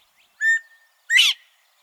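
A northern bobwhite quail calls once, a clear whistled note followed by a louder, sharply rising second note, alone against silence.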